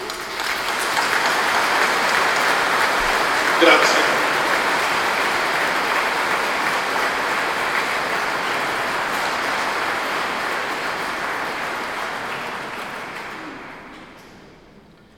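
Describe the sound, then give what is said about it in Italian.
Sustained applause from a crowd for the saints, a dense steady patter of many hands clapping for over ten seconds before gradually thinning and fading out. A single brief spoken word is heard near the start. “Per questo vi dico un applauso per i santi.”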